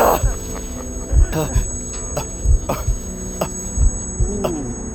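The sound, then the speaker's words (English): Slow, heavy heartbeat thumps pulse at a steady rhythm, about four beats, over a low droning hum and a thin high-pitched whine, with muffled, indistinct sounds in between. “Sound was pulsating in and out of my ears, in time to my deceptively calm heartbeat.”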